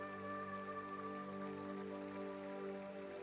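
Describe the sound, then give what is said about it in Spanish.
A steady, unbroken rush of flowing river water fills the background, layered with soft sustained musical tones that hold evenly throughout; no one speaks. “Escuchando el sonido de fondo del río,”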